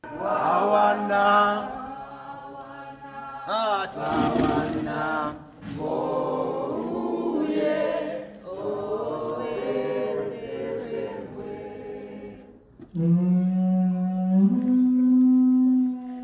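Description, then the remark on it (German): A foghorn sounds within a piece of music, its deep, sustained moaning blasts woven among harmonic tones, ending with a loud, steady low drone that steps slightly higher in pitch. “Ja, und in der Musik versteckt, ich habe ein kleines Stückchen mitgebracht, ist auch sozusagen das Wichtigste an diesem Abend, nämlich ein Nebelhorn, das dafür da ist, dass man immer rechtzeitig von Ort zu Ort geht.”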